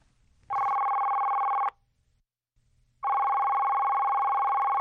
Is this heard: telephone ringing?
yes